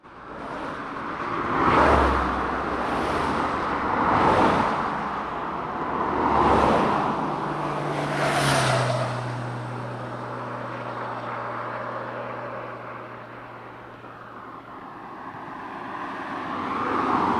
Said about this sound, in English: Now that is the sound of an A road, which is exactly the kind of road that you don't want to find yourself cycling down when you're trying to recreate a cycle tour in the genteel Edwardian fashion.